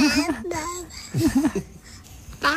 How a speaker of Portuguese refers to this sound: Isto em bebê significa parabéns, tia.